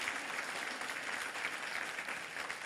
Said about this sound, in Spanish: No quiero sonar folclórico, pero démosle un aplauso a ese Dios poderoso que tenemos todos nosotros. Que se oiga ese aplauso, hermano. Dele un aplauso a ese Dios.